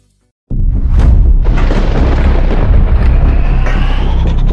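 After a brief silence, the distant engines of a time machine kick in abruptly with a loud sci-fi hum: a heavy, continuous low rumble with a roaring hiss layered on top, holding steady without pauses. No one speaks.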